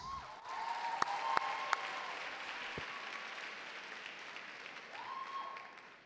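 An audience applauds steadily for about six seconds as a poet is welcomed to the stage, a dense wash of clapping with a few sharper individual claps and brief high whistles near the start and end. No one speaks.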